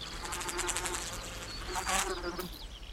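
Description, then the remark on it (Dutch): Mosquitoes buzz in a dense swarm over a damp reed marsh with heavy wet ground at the Rosberg in Nierstein, a continuous whining drone with wavering pitch that swells briefly near the end, with no voices. “Maar een vochtig gebied met zware natte grond, riet dat zachtjes wiegde in de wind en waarschijnlijk een miljoen muggen.”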